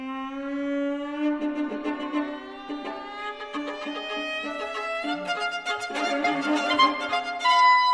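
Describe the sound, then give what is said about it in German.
An orchestra, with the rooster's crow played by a piano, imitates a rooster in Camille Saint-Saëns' Carnival of the Animals. The long tone is the cock-a-doodle-doo: bright, sustained string tones with busy, rapid repeated notes pecking underneath, like hens squabbling over grain. Steady and fairly loud throughout, with no voices. “Beim Karneval der Tiere wurde das Hahnenkrähen von einem Klavier gespielt.”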